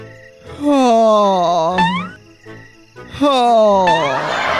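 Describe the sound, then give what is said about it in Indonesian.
Two long, loud vocal yawns from a very sleepy person, each a drawn-out voiced groan that rises and falls before trailing off, separated by a brief pause. “Woi, dari tadi nguap-nguap aja kau.”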